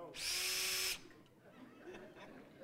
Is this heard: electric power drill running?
yes